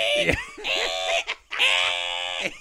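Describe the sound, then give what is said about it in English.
A voice imitates an old 1980s dot-matrix printer that printed on roll paper with holes on the side, making harsh, buzzing, screechy bursts in two main stretches, separated by a brief pause, loud and strained with raspy high-pitched tones. “That was what the printer used to sound like.”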